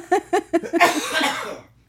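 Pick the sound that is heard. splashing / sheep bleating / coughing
coughing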